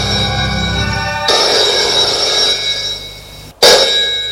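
A telephone in an office rings with a bright, steady metallic tone, cutting off abruptly for a moment before resuming loudly. No voices are heard.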